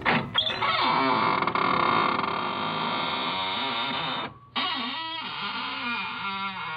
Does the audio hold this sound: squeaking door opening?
yes